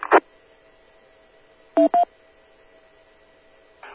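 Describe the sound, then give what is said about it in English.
Two quick electronic beeps in close succession from an amateur radio repeater, each a short dual-pitched courtesy tone, framed by brief bursts of radio static at the start and end over a quiet background hum. “K2LIW, wait for the beeps.”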